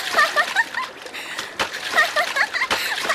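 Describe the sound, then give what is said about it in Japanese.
Water splashes and sloshes in quick, uneven bursts, as if someone is playing in a real river, with excited voices and laughter mixed in. “本物の川だよ。”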